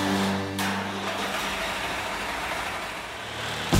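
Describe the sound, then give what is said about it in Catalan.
A tractor engine cranks and catches, then settles into a loud, steady rumbling idle, with a rough low-pitched throb throughout and no voices. The tractor is being started in a garage before driving off toward the sea. “Engego el tractor i m'avio cap al mar.”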